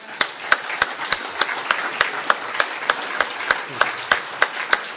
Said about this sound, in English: let's give a round of applause to the speakers